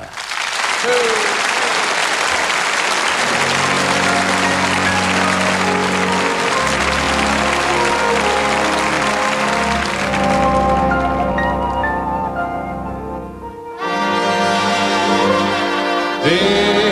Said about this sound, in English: Ladies and gentlemen, would you please put your hands together and give a real good round of applause for your very own